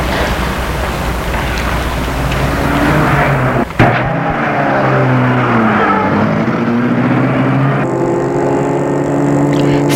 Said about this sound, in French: Il le fait entrer dans la voiture et Stéphane aussi. Puis il la met en route.